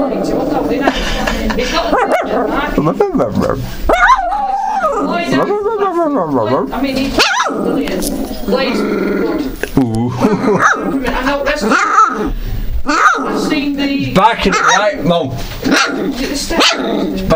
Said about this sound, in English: He's barking at the iRiver, it's ever funny. Oh, yeah. Yeah, but one's barking at me.